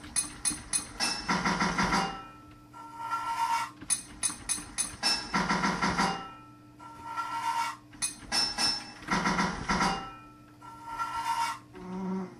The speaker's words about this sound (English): Pipes in your toolbox, 12 total pipes to fit this level, 5 hits of your hammer to fit a pipe.